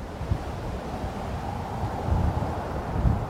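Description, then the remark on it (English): A steady wind ambience from the video game Fallout 4: a continuous low, rumbling rush of air with gentle swells and a couple of stronger gusts, with no voices. “These are typically sounds like rain, wind, forest rustling, room tone, or anything that establishes the environment.”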